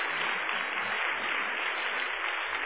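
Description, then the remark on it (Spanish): Steady audience applause during a Spanish-language sermon, called for by the preacher, a dense wash of many hands clapping together at an even level for a few seconds, with no voices standing out. “¡Un aplauso!”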